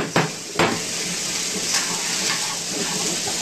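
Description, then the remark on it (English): Vegetables, peppers and eggplant, are sautéed quickly in a little oil in a pan with a steady, hissing sizzle, broken by two sharp clinks of a utensil against the pan near the start and a few softer scrapes. “We sauté the vegetable quick.”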